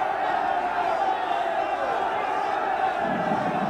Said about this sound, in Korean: 들어봐요. 이스라엘 자손들이 섬뜩한 전쟁 함성을 지르고 있어요.